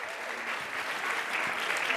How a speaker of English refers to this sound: She's another resident comedian and part of our program. So clap for her. She did a great job. Nice work, girls.